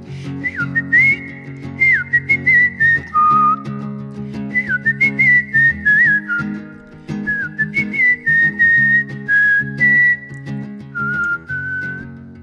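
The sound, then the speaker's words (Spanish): A person whistles a clear, sustained melody of a song in place of a string section, over a steady instrumental backing, the tune moving in phrases with brief pauses between them, loud. “Y ahorita voy a silbar esta parte porque no tenemos una sección de cuerdas todavía.”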